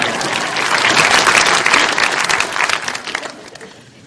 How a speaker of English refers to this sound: You can applaud. We have time.